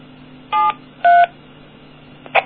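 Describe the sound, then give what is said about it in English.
Two steady DTMF keypad tones, 7 and 3, keyed to close a ham radio repeater link, each about a quarter second with a short gap between, followed by a brief higher blip, all over a faint low hum with no talking. “Now, that time I used 7-3, which is the ham radio thing for saying goodbye over Morse.”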